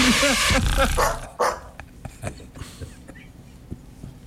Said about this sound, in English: And it sounded like this. That's his new bark, by the way. That's even funnier.